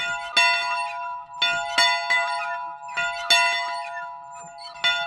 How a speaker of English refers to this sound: When that bell rings, we'd better be in here, too. There's somebody be coming looking for us.